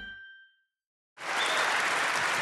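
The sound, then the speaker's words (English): A short chime rings and fades into a moment of silence, then an audience bursts into loud, dense applause for the next guest, comedian Jason Manford, that holds steady to the end. “And keep that applause going for my next guest, who is probably best known as Jammy from the Xbox 360 game Fable 3.”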